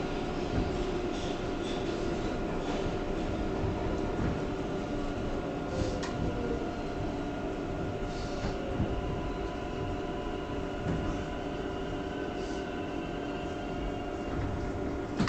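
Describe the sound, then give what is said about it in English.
A Parkchester-bound 6 local subway train rumbles steadily along the tracks between Brook Avenue and Cypress Avenue, a loud continuous low roar with sustained tonal whine and occasional clacks and squeals, no voices. “This is a Parkchester-bound 6 local train.”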